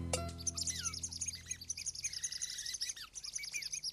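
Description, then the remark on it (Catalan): Many small birds chirp and twitter continuously, a dense overlapping chorus of quick high tweets and short whistled notes, with a brief low thump right at the start, as the birds peck at what was planted in a pot. “Doncs mira, aquests ocells te l'estan picant tot.”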